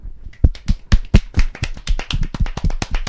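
A round of applause: dense, irregular hand claps with sharp, bright impacts that overlap steadily for a few seconds, fairly loud, with no talking over them.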